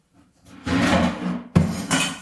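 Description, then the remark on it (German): A frying pan is pulled out and handled, with a scraping metallic rattle followed by a sharp clunk and a ringing clatter, with no one speaking. “Nehmen wir die Pfanne hier? Nee, die ist ein bisschen klein. Soll ich zwei reinmachen? Ich habe noch eine große.”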